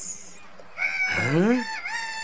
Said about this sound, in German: Hey, hast du was gehört? Da war was. Aber man versteht ja sein eigenes Wort nicht. Die Vögel, die machen einen Heidenlärm.